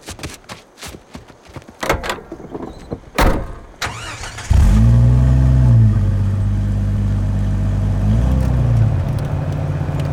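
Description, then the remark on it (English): A few clunks and door thumps, then an open jeep's engine starts with a loud low rumble and revs steadily as it pulls away, heading for shelter before a rainstorm, pitch rising and dipping with the throttle. “Let's jump into the jeep with Amari, quick!”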